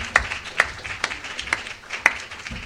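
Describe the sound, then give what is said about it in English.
A brief, thin round of applause: about five sharp claps at a slow, steady pace, moderately loud over a low background hum, with no voices. “a round of applause”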